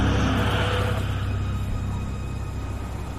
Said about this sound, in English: The net car pulls into the motel parking lot.